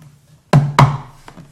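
Two firm knocks on a wooden surface in quick succession, followed by a much fainter third tap, over a low steady hum with no talking.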